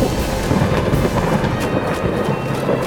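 Thunder rumbles loudly and steadily throughout a lightning storm, a deep, continuous roll with the hiss of falling rain above it and no voices.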